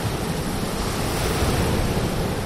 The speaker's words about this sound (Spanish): Bajo nuestros pies la arena de la playa, alguno haciendo gimnasia y de fondo el sonido del mar.